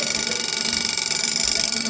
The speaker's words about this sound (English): This was 1957, before email and text messaging. They did have alarm clocks.